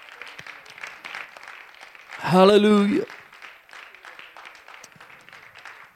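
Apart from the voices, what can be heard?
audience applauding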